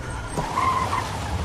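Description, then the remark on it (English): A car's tires skid with a short, loud screech lasting under a second, riding over a low engine rumble that continues after the squeal fades, as the car pulls over beside another car at the edge of the woods. “She pulls over beside the stolen car at the edge of the woods.”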